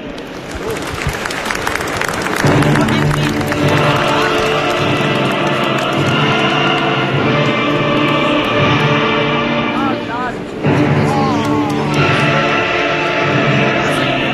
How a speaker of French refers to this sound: Je vous demande tous de l'applaudir. Merci.